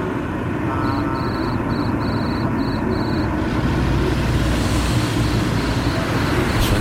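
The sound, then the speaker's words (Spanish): Busy street ambience during the Christmas season: a steady, loud rumble of passing traffic, with a rapid run of high electronic beeps in the first few seconds and fainter beeping later. “Suena bien la calle y estoy muy, muy a gusto de volver a la calle a saber cómo está el ambiente navideño.”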